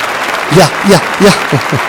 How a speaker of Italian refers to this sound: Però dai, pure per te gli applausi, eh? Va bene?